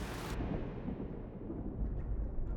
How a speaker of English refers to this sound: Up above, rain pours on the rushing brook.